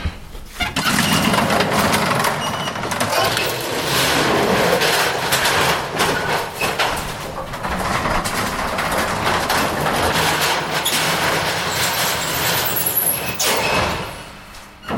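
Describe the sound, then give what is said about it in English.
An old elevator at the London Metropolitan Archive in London runs with a steady, loud mechanical rumble and rattling clatter, punctuated by clanks as its door slides, continuing for about fifteen seconds before easing off near the end. “Elevators with this kind of door abound.”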